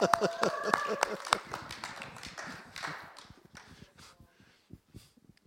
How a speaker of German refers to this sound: Jubel.